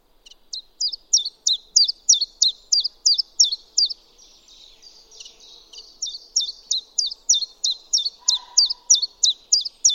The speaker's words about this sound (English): Its song has given the chiff chaff its common name and its Latin name. The little olive green warbler has the onomatopoeic name chiff chaff in English, Welsh, Dutch, and German.